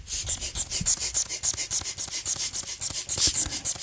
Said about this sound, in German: Also, ich weiß nicht, ob ihr das hören könnt. Also, es quietscht ein bisschen. Es ist ein Blasebalg mit einem kleinen Schlauch, ca. 20 cm. Und da dran hängt ein Knebel, der aufblasbar ist.